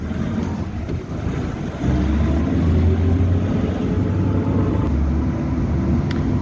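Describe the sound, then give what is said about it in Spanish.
Steady, chaotic early-morning city traffic in Bogotá, Colombia, with a deep engine rumble that swells louder after a couple of seconds, a constant wash of vehicles and no voices. “Con él nos adentramos en el caótico tráfico bien temprano de la capital colombiana.”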